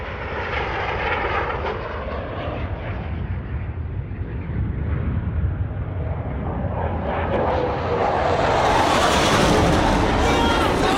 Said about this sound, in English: A fighter jet passes overhead.